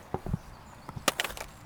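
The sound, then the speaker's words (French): A wooden stick knocks against a microphone at a campsite in a series of irregular, sharp hollow taps, about nine in all, with the later knocks louder and brighter. No one speaks. “laisse tomber le bout de bois avec le micro.”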